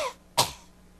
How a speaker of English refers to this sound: Cough for me.